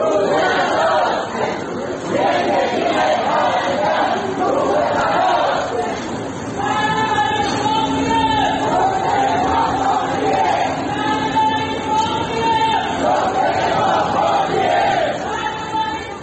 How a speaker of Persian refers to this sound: بنابر گزارش‌ها، گروهی از معترضان روز دوشنبه کادر درمانی بیمارستان امام خمینی بودند که با تغییر یک شعار قدیمی فریاد می‌زدند: عزاست عزاست امروز، روز عزاست امروز، زندگی پرستار روی هواست امروز.